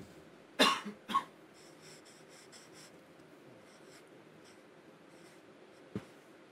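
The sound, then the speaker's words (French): A felt-tip pen writes a dedication on a small cardboard sheet: a couple of louder bumps, then a run of quick, soft scratchy strokes, and one final sharp tap. No one speaks. “Non, je crois qu'on a un vrai feutre avec une petite feuille cartonnée.”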